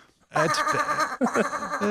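sheep bleating sound effect

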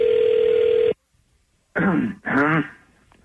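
phone dial tone

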